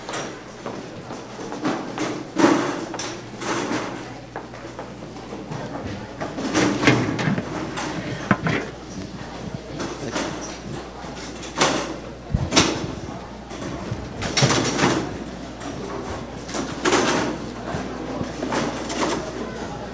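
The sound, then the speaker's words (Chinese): Chairs scrape and thump across a hard floor in a series of irregular bursts, several being moved aside at once after a church gathering, with faint voices murmuring. “感谢主，我们今天交通就到这里哈，我们到隔壁去用餐跟交通，如果你对今天的信息有一些回应啊，我们就很快的把椅子放到旁边去，我们一同来唱这首歌。”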